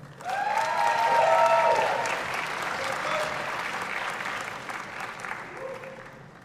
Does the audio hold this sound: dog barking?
no